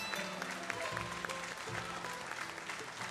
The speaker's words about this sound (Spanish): Apláudanlos, por favor, bien fuerte.